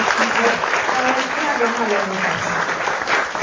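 A crowd applauds steadily, giving thanks to God for two pastors, a married couple, being introduced, a dense, even wash of many hands clapping for several seconds without pause, with faint voices mixed in underneath.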